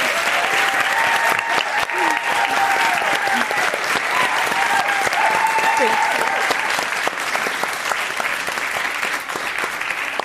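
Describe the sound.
Sustained audience applause fills the whole stretch, a dense, steady wash of clapping from a sizable crowd, loud and continuous with faint murmurs and a few voices mixed in underneath.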